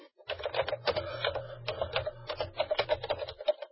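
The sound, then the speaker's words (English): Rapid, loud clacking of a computer keyboard being typed on, with dense irregular keystrokes over a low mechanical hum, with no voices. “Keyboard of death.”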